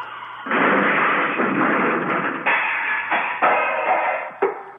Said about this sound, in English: Let's hear that car crash. I think that's the best thing of the hour.